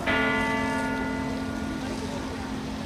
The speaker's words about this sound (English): When Malala Yousafzai and Kailash Satyarthi arrived to the toll of the Oslo City Hall bells in December for the award ceremony, the focus will be on them and their good work.